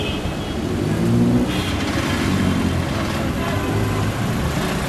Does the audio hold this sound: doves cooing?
no